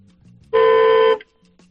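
A single loud car horn blast lasting a little over half a second, steady and bright with strong harmonics, set against quiet low background rumble before and after.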